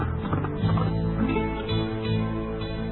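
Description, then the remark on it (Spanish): A horse's hooves clip-clop steadily for a few seconds, with no one speaking, set against a dense, muffled low background. “Por tanto, cogió el primer caballo que pilló y se lanzó al monte.”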